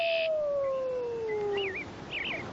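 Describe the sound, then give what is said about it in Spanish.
A wolf lets out one long, steady howl that slowly slides downward, followed by shorter, wavering higher-pitched howls answering as the whole wolf pack gathers. No one speaks. “Con un solo aullido, los lobos han reunido a toda la manada y nosotros estábamos aquí para verlo.”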